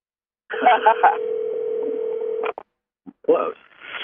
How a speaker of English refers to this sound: I'm calling your phone now. You don't hear it? I hear it. Is it in the car?